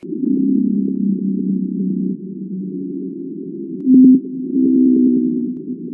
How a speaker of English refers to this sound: On the opposite side of the speed and size scale, there's the blue whale.